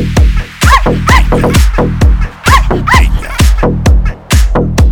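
A dog yips and whimpers in a rapid, insistent string of short, high-pitched cries, loud, with barely a pause between them.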